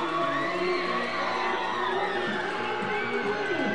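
A large, rowdy home crowd at a ballpark at night, announced attendance 2,149, cheers and shouts continuously, with whoops and yells rising over a dense, steady roar that fills the whole stretch loudly.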